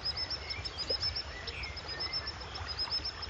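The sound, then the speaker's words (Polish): Thin, high-pitched piping calls of a common sandpiper repeat in quick series, faint over a steady wash of rushing water. “Można spotkać, o teraz słyszymy piskliwca.”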